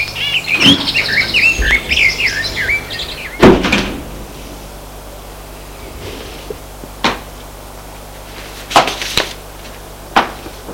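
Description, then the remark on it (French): A house door opens and shuts with a heavy thud as people enter the house after getting out of a car, followed by a few sharper clicks and knocks from the latch, while birds chirp outside at the start. “Et entrent dans la maison.”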